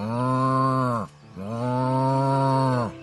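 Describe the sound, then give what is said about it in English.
A voice imitates a cow, made by two men walking slowly out into a pasture, with two long, low, droning moos, the second longer than the first, each trailing off at the end, loud with a short pause between. “Uncle Lee and Old Joe started easing out in the field, walking slow and mooing like a cow.”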